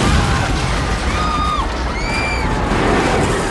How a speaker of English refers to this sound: In the convention hall, the spaceship bursts through a wall, scattering fans as they flee.